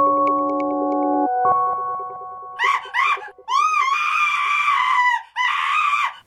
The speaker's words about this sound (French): C'est inquiétant, non? D'entendre quelqu'un crier tout d'un coup.